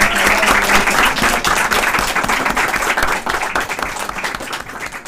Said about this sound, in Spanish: Así que yo quiero, antes de irme, que le brindemos un fuerte aplauso al tercero medio,